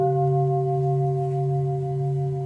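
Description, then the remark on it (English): A mindfulness bell rings in a cafeteria dining room during a silent meal, its low, steady tone holding a few clear overtones that hum evenly for the whole stretch with no voices. “Periodically, the sound of a bell stills the cafeteria dining room.”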